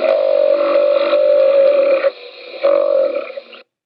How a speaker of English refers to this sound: Creature call number six was the sound of a bison. Listen to its wonderful snorts.